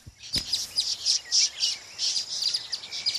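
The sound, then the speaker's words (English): Birds chirp and tweet continuously in high, bright bursts, several calls overlapping with no voices, a chorus among trees in the early morning in Congo. “I love this time, early in the morning. And it's quiet, not too hot, and you get to see loads of beautiful birds.”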